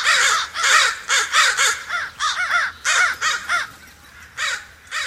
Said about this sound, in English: Follow crows to their roost some autumn evening, if you can, and watch these avian acrobats wheel in.